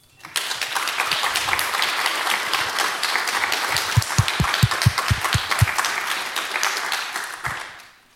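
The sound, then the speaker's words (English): A conference audience at FrOSCon, held at the Hochschule Bonn-Rhein-Sieg, applauds the organization team steadily for about eight seconds, a dense wash of many hands clapping, with a few louder, sharper claps standing out in the middle before it fades away. “So again, a big applause to them.”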